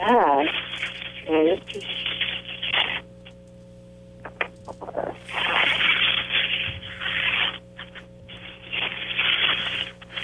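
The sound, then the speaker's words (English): Rune stones click and rattle inside a cloth pouch in several busy bursts of rustling clatter, with brief pauses between handfuls and a short voice sound near the start. “I love hearing them move around in your pouch.”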